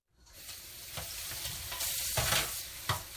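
A steady rush of water running from a kitchen faucet, with a few dishes clinking and knocking against each other as the supper dishes are washed one evening in a home in Kern County, California. No one speaks.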